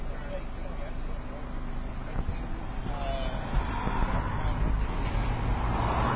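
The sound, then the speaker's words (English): A truck rumbles past, its low engine drone swelling over several seconds amid steady street noise, with a bus following behind. “Hang on, there's a truck. Oh, this way, and there's a bus after that.”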